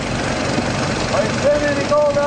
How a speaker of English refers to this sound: The hose acts as a vacuum and sucks up sediment into a box on top of the dredge. Then the miners sift through it, looking for gold. Here's what it sounds like.